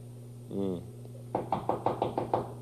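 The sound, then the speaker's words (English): A brief buzzing tone, then about seven firm knocks on a door in a quick, steady rhythm, fairly loud against a low background hum; Mr. McFeely is at the door with a speedy delivery. “There's somebody at our door.”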